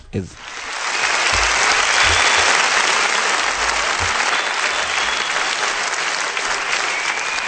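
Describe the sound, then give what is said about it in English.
Sustained applause from a crowd on a live recording of a song, a dense wash of many hands clapping that swells within the first second and stays loud and steady throughout, with faint low thumps underneath. “Too bad it's a live version. Sorry. The only applause we'll get.”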